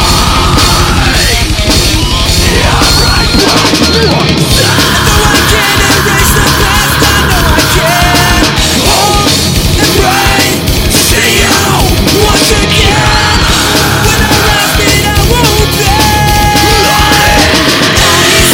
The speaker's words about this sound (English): Like, I hate my fucking scream listening back to this. But and like, if you took, like, all of us now and redid it with, like, an awesome recording, I feel like it would still hold its own.